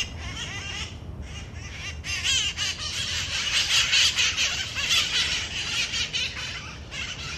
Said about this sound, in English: Though it didn't take me as long as I thought to find these parrots, the search for the little green creatures makes San Francisco feel a little bit more wild.